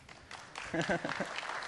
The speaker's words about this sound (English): There we go. Hooray, big round of applause for single sign-on.